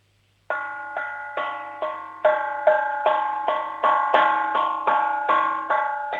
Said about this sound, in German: Was war denn das für ein Kochtopf? Der klingt ja fast wie eine Kirchenglocke. Ist der groß? Nein. Nicht? Aber der hat einen schönen Klang.